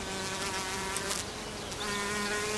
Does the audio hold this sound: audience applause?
no